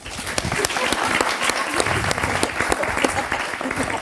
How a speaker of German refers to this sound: Können wir den Applaus nochmal haben? Alle, die queer sind, Applaus!